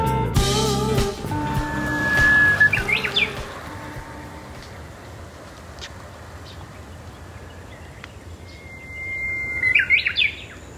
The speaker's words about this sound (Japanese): これ聞いてくれました？このウグイスちゃん、私の声に答えて 私の声に答えたんですか そうそう 勝手に泣いてるんじゃなくて、 違う、勝手に泣いててね、泣いてくれ、私は録音してるのに泣いてくれへんからね、もう一声って言ったらね、ほうほうけきょって言ってくれたんだね